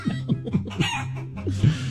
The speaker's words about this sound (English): But seriously, how many chickens would it take for me to get a couch? How many? How many? Do you hear them all? They're running around the barnyard right now.